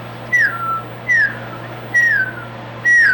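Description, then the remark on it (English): Four short whistles at an even, unhurried pace, each a bright note sliding downward in pitch, sounding over a steady low hum; a whistle call used to call a mule or a horse. “Okay, what about calls, when you're calling a mule or a horse?”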